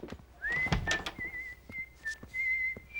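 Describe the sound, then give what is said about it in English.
Columbo whistles a steady, sustained tune while examining files spread out over a table in an office at a radio station, the clear tone holding and wavering slightly, with soft rustling and light knocks of handling objects underneath. “At the radio station, a whistling Columbo is examining files spread out all over a table in an office.”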